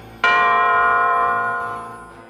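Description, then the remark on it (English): A single loud clock chime strikes once, a bright metallic bell tone with rich ringing overtones that slowly fades over about two seconds, with no voices. “Soon he heard the clock strike 1.”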